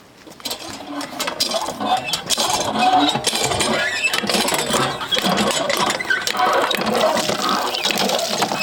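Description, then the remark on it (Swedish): Water gushes and splashes steadily from a hand pump, with a rhythmic mechanical creaking beneath the flow. The sound is fairly loud, continuing throughout without any speech. “Det fanns vatten här. Det fanns vatten i pickepumpen, ja.”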